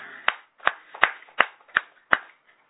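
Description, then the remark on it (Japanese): Six sharp, crisp hand claps in a steady, even rhythm, each a bright snap with quick decay, with no talking underneath, given as applause to celebrate someone's 70th birthday (koki). “70歳古希を迎えられましたので、盛大な拍手でお祝いをします。”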